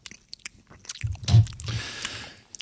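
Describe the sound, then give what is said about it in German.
Wet chewing and lip-smacking on a soft bread roll, with squishy mouth noises building into a louder burst of mastication before continuing steadily. “Und das Schmatzen habe ich mir...”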